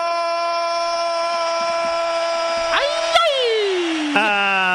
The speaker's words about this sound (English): Okay, that's me being excited. Did you just step on a bit of leg or what happened then? That was my trying to do my excited yell, but also I'm a little bit in pain. I hurt my knee when I threw myself to the ground